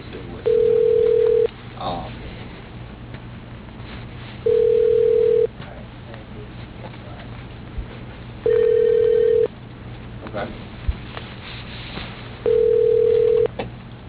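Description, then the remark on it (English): A telephone ringback tone purrs four times while a call to Buoy's Climate Control is transferred to an operator, each steady mid-pitched ring lasting about a second and spaced evenly apart, with faint line hiss and murmurs in the gaps. “Transferring to... Operator. One moment, please.”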